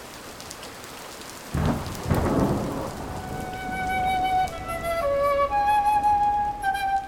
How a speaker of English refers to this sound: Then it began to rain.